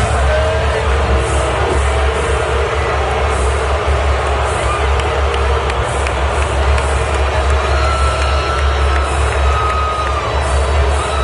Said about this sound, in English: but when they showed him during the national anthem, listen to the crowd. Yeah, so they were cheering the Commander-in-Chief, President Trump, during the national anthem.